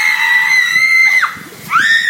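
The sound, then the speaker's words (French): Loud, high-pitched screaming: a long sustained shriek that dips at its end, a brief gap, then another scream rising sharply in pitch. No speech accompanies it. “Et les gens crient.”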